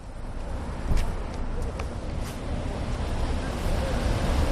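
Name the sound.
sea waves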